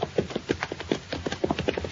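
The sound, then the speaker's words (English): Horse hooves clip-clop in a steady, quick rhythm, several hoofbeats per second, moderately loud, as horses are ridden to a barn, with no voices over them. “Leave our horses in the wagon shed there till we get a saddle on the stallion.”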